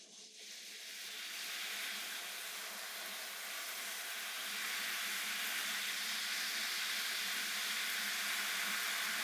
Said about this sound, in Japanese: 冗談ばっか言っとらんで、シャワーの続きばやるばい。